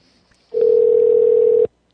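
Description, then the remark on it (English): A loud telephone dial tone while calling a number saved in a phone book: one steady, unbroken hum lasting just over a second, then cuts off abruptly, with near silence before and after and no voices. “Oh, wait, we've called this one before because it was in my phone book as Abort V2.”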